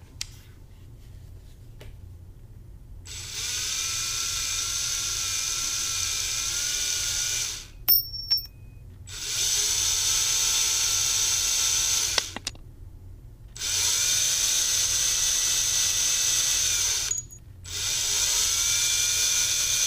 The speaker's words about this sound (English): The door's a lock, so I'm gonna use my handy dandy screwdriver and try and get in there. Wish me luck.